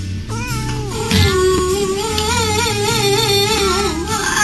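Cat meows pitched into a jaunty Christmas melody, sung over a steady bouncing bass and music backing, continuous and loud throughout with no talking.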